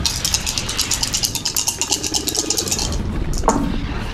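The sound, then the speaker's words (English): Dice are rerolled, rattling and clattering in a quick, steady run of sharp clicks for about three seconds, followed by a softer pause and one brief clack before the end. No one speaks. “You can use a resistance and reroll.”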